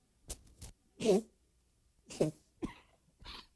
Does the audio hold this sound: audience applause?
no